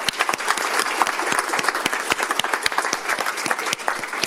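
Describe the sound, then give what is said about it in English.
An evening crowd applauds steadily for organizations doing work in the valley, many hands clapping in a dense, continuous patter with sharper individual claps poking through. The applause holds at an even, fairly loud level throughout, with no talking. “So I just want to extend a thank you and give a round of applause to all the organizations that are doing fantastic work in this valley.”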